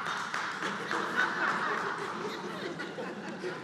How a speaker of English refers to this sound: coming through with the applause. Thanks, man.